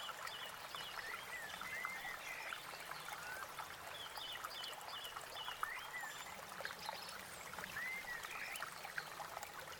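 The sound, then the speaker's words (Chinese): A small stream of clear water beside a path babbles steadily in a continuous, gentle trickle in a small, quiet wood, with a few faint bird chirps rising now and then in the background. No one speaks. “沿路有条小溪，清澈的水潺潺流淌着。”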